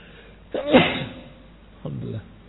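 A single loud sneeze, a short inhaled build-up bursting into a sharp blast, followed a moment later by a brief murmured vocal sound.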